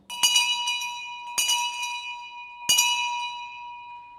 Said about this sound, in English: It's a bell from the time of Shakespeare